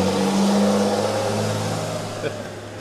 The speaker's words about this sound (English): The sound of traffic has replaced the soothing serenade of the surf at Ocean Park because we're back in Cambridge, Massachusetts.